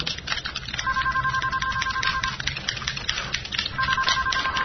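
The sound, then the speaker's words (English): A telephone rings in two separate bursts of steady electronic double tones, clear, over a busy background of clicking and rustling noise. “What is that ringing?”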